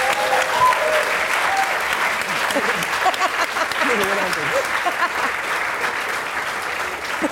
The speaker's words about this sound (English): Okay, please give me a huge round of applause.